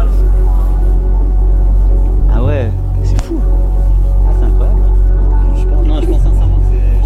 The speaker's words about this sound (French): Ah mais là, vous avez tous les relais TDF de gendarmerie. Ah ouais, laisse tomber le son là. Regarde, c'est drôle. On dirait de l'eau qui coule. C'est incroyable, bien sûr, ouais, vas-y, écoute les interférences quoi. C'est une douche d'onde.